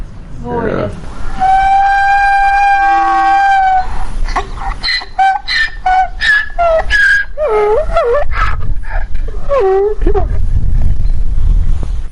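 A train horn gives one loud, sustained toot lasting a couple of seconds, followed by a run of shorter warbling, whistle-like tones rising and falling over a low background rumble.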